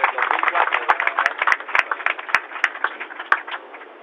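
Audience applause: a dense, steady patter of many hands clapping for about four seconds, with a few sharper individual claps standing out over the crowd.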